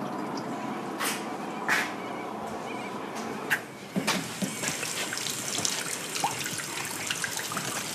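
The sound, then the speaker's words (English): Water runs steadily from a tap into a heritage-listed hand washing basin in an old toilet block of a former aerodrome school, a continuous splashing trickle with a few brief clinks and knocks against the sink, no voices present. “And here we have a heritage listed hand washing basin.”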